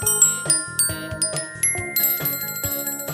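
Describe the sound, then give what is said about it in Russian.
A small copper bell rings over and over in quick, bright strikes, its clear metallic tones overlapping as it jingles steadily, with no voices. “Колпачок смешной на нем, с колокольчиком из меди.”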